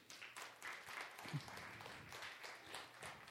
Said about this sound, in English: All right. Yep, you can clap.